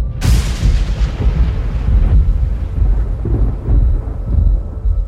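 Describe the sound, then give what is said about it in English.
A loud crack of thunder breaks open near the start, then rolls into a deep, sustained rumble that surges and fades over several seconds, with a hiss of rain beneath it and no voices. “Imagining a scene there from a graphic novel, a dark and stormy election night”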